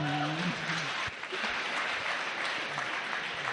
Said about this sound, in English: Let's clap for her now.